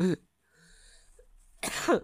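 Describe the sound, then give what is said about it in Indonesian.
Two harsh coughs, a short one at the start and a longer, rougher one near the end, separated by a quiet pause with faint background hum. “Bercanda ya cewek-cewek ya, kan kena karma gue batuk.”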